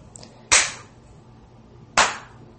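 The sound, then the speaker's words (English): Sparse, half-hearted applause: just two sharp, loud hand claps about a second and a half apart, each a crisp snap that fades quickly, with no voices. “That beautiful applause.”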